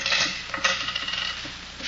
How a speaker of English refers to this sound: Then take everything out of your pockets. Mm-hmm. Yeah. Keys.